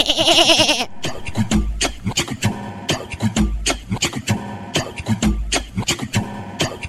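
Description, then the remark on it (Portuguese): A human voice imitates a young goat with one loud, quavering bleat lasting just under a second, then a thumping electronic dance beat kicks in and carries on. “Agora o … vai imitar o cabrito.”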